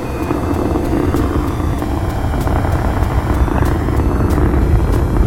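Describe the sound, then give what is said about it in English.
The Space Shuttle Discovery's engines roar at liftoff on the first International Microgravity Laboratory mission, a loud, steady, low rumble with crackling bursts, sustained throughout without a break and with no voices. “Liftoff of the Space Shuttle Discovery and the first International Microgravity Laboratory.”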